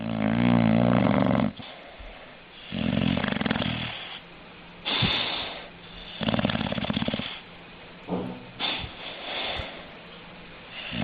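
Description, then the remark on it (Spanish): A six-month-old dog named Baltimore snores loudly, with a run of deep, rasping breaths repeating in an irregular rhythm, each snore separated by brief quieter pauses; recorded on 13 July. “Este es mi perro, Baltimore. Otro día les contaré por qué se llama así, roncando.”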